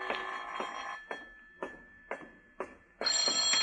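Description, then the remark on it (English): A telephone bell rings at Philip Marlowe's apartment in the morning, a call from the telephone company, in a run of short, evenly spaced bursts about half a second apart, then swells into a longer, steady ring at the end. Fairly clear, with no voices. “This is the telephone company calling, Mr.”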